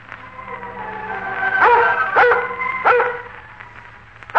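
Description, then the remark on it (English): A Scotch collie, Lassie playing a collie named Laddie in the story Lost Dog, barks three times in quick succession, sharp, following a drawn-out whining tone, with no one talking. “Today, Lassie plays a part of another Scotch collie named Laddie in a story entitled Lost Dog.”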